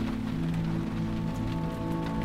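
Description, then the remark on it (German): Steady rain patters on the roof of a bus loaded with suitcases and bags tied under a tarpaulin, in a Hamburg summer on 16 August 1960, a dense, continuous drumming of drops with a low droning hum underneath, no voices. “Zum Glück, denn es regnet.”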